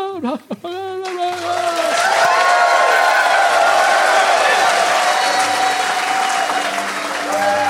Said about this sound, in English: And we fade out of there, and in the darkness, we hear thunderous applause.